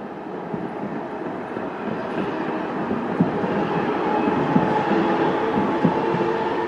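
A tram rumbles past the town hall, a steady loud low roar with faint metallic squeals and a few soft clanks, holding throughout without fading. No one speaks.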